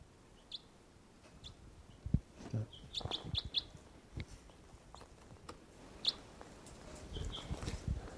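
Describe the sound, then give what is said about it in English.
Scattered high, thin chirps from a single wild bird, apparently a female, sitting on a rock, short and irregular, over a quiet background with a few soft low thumps and rustles. No one speaks. “There's just the one bird, and she's, I don't know what she's doing, she's on the rock.”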